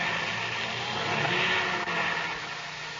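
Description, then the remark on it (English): A motor engine starts up and runs with a steady, loud, rough roar, its broad droning hum holding fairly even throughout with no voices. “They're starting their motor.”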